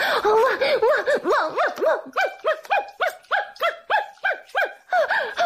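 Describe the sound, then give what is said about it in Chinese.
A woman's voice imitates a dog barking, giving a rapid, steady run of about a dozen short, yelping barks, loud, with no other talking. “好，老公你听好了，老婆我这就学母狗叫给他们听。”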